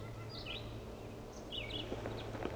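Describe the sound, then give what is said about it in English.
Crossbill calls broadcast from many decoy speakers while someone tries to catch a male crossbill: several short, chirpy notes repeat at irregular intervals, fairly faint, over a steady low hum and outdoor background noise. No one speaks. “He's not calling, but the many decoys are.”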